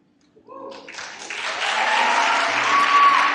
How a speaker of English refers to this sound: Just that I'm excited to, you know, publicly accept Jesus in my life and thank everybody for all the applause.